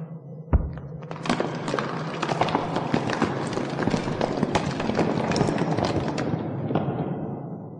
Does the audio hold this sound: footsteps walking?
yes